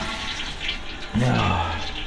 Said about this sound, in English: We'll just go ahead and flush the toilet.